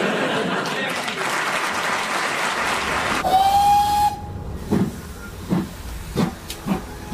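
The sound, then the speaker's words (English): Loud, steady steam hissing gives way to a single sustained, mid-pitched steam whistle blast, then a few evenly spaced puffs of a steam train chuffing. “Get on the train and just go.”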